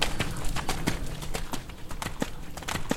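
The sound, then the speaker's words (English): A horse's hooves clip-clop in a steady, even rhythm during dressage, each sharp strike evenly spaced over a low background rumble, consistently loud throughout. “If you put a metronome on him, how steady was that?”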